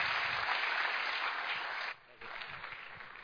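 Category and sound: crowd, audience applauding warmly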